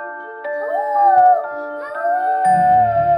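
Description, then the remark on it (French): A voice imitates a wolf's howl, a long wavering cry that rises and falls over a steady tonal backdrop, with a low rumbling noise joining near the end. “Il va falloir frapper contre cette porte. Et faire le loup.”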